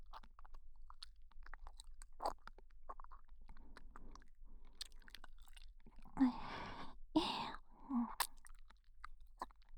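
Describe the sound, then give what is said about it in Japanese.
Close-up chewing of a snack right by the ear, with soft wet mouth clicks building into louder crunchy bites toward the end, no talking. “こういう耳元で咀嚼音響かせてあげるのも、チンポコキのおかずとして感覚バグらせちゃえ。”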